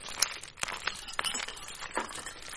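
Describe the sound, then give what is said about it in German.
Fire crackling in the fireplace of a holiday cabin on a ski trip in the evening, a steady hiss of soft pops with sharper snaps scattered irregularly throughout, quiet and continuous with no voices. “Das Feuer im Kamin knistert einladend.”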